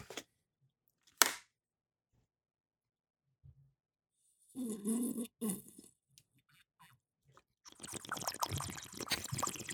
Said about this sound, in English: You're not drinking loud enough. I don't know how to drink loud. Okay, here we go. Wait, can I just try something real quick? Yeah. Oh, I gotta slurp it.